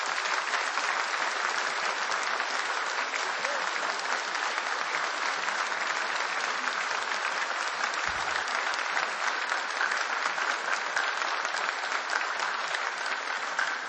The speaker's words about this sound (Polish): … to jest to, czym powinniśmy się w Ministerstwie Obrony Narodowej i w wojsku chwalić, chlubić i powinniśmy być dumni, że mamy takich wspaniałych artystów. Wielkie brawa dla nich.